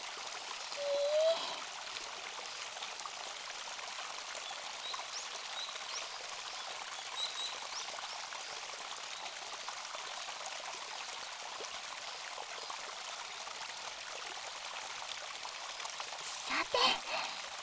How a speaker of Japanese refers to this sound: やっぱり男の人って足が大きいですね。この足に溜まった熱が川に流されていく感じ。